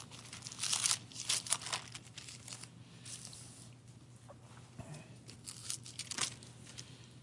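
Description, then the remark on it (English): Papery rustling and crinkling as book pages are flipped, several short bursts spread over a few seconds above a steady low hum, with no one talking. “I flipped the page on me.”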